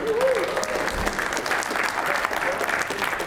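A crowd claps and cheers steadily throughout for a birthday, dense applause with a few whoops and a faint high voice rising above the noise.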